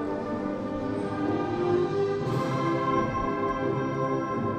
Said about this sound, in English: Now I can hear the timpani. That's better.